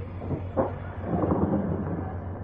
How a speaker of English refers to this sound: Wait till I get this door open.